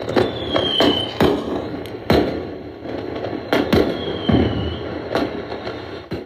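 fireworks exploding sound effect

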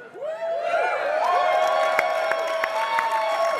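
audience cheering and screaming

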